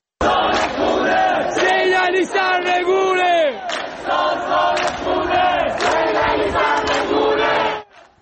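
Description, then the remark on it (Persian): At night in Ekbatan township in Tehran, a crowd of protesters chants slogans against the government in unison, loud and rhythmic with rising and falling shouted phrases, continuous for several seconds before cutting off abruptly. “معترضانی که در شهرک اکباتان به یکی از حلقه های اصلی اعتراضات در ماهای گذشته تبدیل شده بودند و حضور شبانه مردم این شهرک و شعار علیه حاکمیت به یکی از نقاط اصلی درگیری نیروهای امنیتی و مردم معترض در تهران تبدیل شده بود.”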